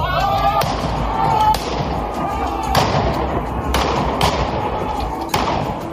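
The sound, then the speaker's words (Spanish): Half a dozen sharp gunshots crack out at irregular intervals, fairly loud, over a constant roar of crowd noise and indistinct shouting voices outdoors, as police in Iran charge protesters with tear gas and gunfire. “La policía ha cargado contra los manifestantes en distintos puntos del país. Lo ha hecho con gases lacrimógenos y con disparos.”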